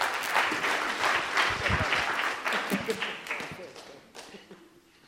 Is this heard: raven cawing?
no